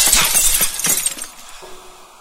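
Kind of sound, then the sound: sound effect, window glass shattering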